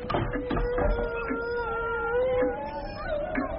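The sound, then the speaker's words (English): Several wolves howl together in long, overlapping wavering tones that rise and fall, a steady chorus sustained throughout with a faint background hiss and no talking. “Those are the voices of my brothers, darling. I love the company of wolves.”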